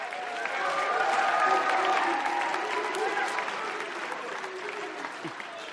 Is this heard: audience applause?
yes